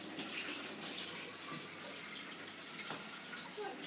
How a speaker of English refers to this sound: I'll put that to the side of the sink for washing tomorrow. Actually, I will put some hot water in it